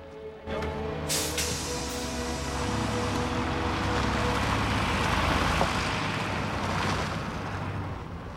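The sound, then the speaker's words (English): A coach with a police escort pulls away: a short hiss of air brakes releases, then a heavy diesel engine rumbles and revs steadily with a low droning tone that holds for several seconds. No one speaks. “The bus pulls away.”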